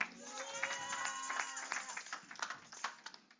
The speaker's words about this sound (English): Give God the hand clap.